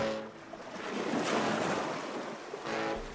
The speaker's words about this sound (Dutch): Als ze eindelijk bij de haven komen, is het te laat. De boot met Ryan vaart net weg.